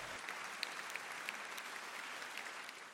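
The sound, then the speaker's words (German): Steady audience applause after a choir's performance of Ave Maria on stage, filling the whole clip: a dense wash of many hands clapping with a few sharper individual claps standing out, no voices heard. “Nach dem Lied gab es wieder großen Applaus.”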